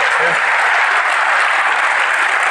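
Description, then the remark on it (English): A crowd bursts into sustained applause for first-timers, a dense, steady wash of many hands clapping, loud and even throughout without any talking on top. “And everyone, give them a huge, huge round of applause.”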